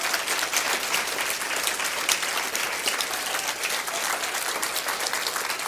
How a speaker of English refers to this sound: They coming in? Great. Let's give them a nice round of applause when they come in.